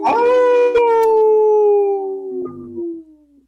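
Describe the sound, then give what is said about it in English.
A single long timber wolf howl, loud, starting high and sliding slowly downward in pitch before trailing off after a few seconds, with no voices around it. “I think I hear a howl from a Timberwolf fan.”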